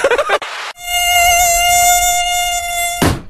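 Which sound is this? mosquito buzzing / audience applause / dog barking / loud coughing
mosquito buzzing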